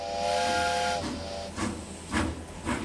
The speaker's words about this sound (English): After the final man arrived, the conductor gave his formal "all aboard," and the train chugged away from the station.